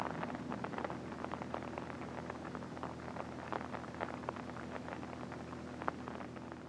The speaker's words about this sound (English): And the rain's just on time. Now it'll rain the rest of the night.